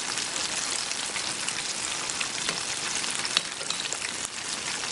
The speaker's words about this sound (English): And my oil is just at the perfect temperature. There's bubbles. If you can hear that noise of frying, perfect.